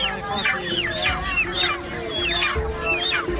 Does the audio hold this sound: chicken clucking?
yes